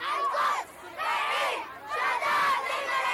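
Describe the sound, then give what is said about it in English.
A protest crowd in Beirut, Lebanon, supporting Gaza and denouncing the massacres in Palestine and Lebanon, shouts in loud, rhythmic bursts of chanting, three surges of many raised voices rising and falling in waves, with brief dips between each swell. “Shouts from protests in support of Gaza and denouncing the massacres in Palestine and Lebanon have been echoing across the capital, Beirut.”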